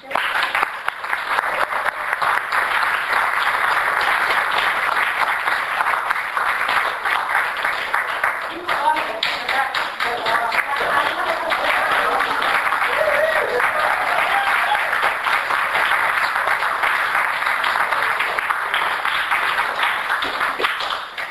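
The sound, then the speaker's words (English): Sustained, loud applause from a large audience as a speaker is introduced, a dense steady wash of many hands clapping at once, with a few faint voices and cheers mixed in near the middle. “And thank you for that generous applause.”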